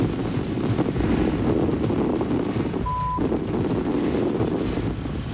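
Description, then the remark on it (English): Strong wind of about 30 miles an hour roars steadily and buffets the microphone with a heavy low rumble throughout, lifting rope-tied solar panels; a single short electronic beep sounds briefly midway. “30-odd miles an hour of wind.”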